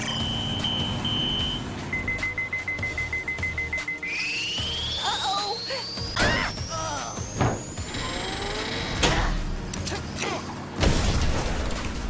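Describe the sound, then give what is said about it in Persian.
Vehicles approach with a low engine rumble and a steadily rising high-pitched whine, punctuated by scattered mechanical clanks and thuds, ending in a loud burst near the close. “نمیتونم جلوی ماشیناشون رو بگیرم.”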